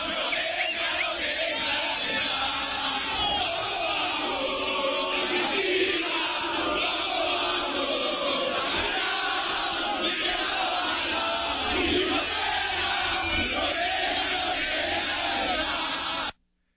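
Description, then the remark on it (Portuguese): A large crowd of Argentine football fans chants in unison, a loud, dense roar of voices with rhythmic, sung phrases that carry on without a break for over sixteen seconds. “Agora, ó, agora essa foi a parte dos brasileiros, agora os argentinos vêm com tudo, ó, vamos ouvir.”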